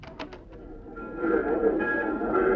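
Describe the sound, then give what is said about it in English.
A train at a railway station, leaving on track 5 for Anaheim, Azusa, and Cucamonga: a few sharp clanks, then a steady mechanical rumble with high squealing, whistling tones that grow louder and hold. “Train now leaving on track 5 for Anaheim, Azusa, and Cucamonga.”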